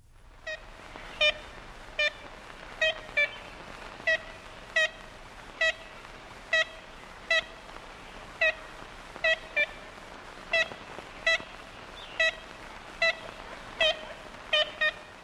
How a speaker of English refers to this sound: And, you know, I thought it would be a fun way to conclude this with listening to the call of the ivory bill. And I believe this is probably from the 1930s. Yeah, 1935.